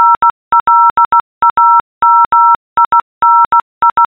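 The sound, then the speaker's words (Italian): Morse code beeps spelling out a person's name, a steady pitched tone keyed into short dots and longer dashes in several clustered groups, loud with no voices. “Io sono Flaminia e questo è il mio nome in codice Morse.”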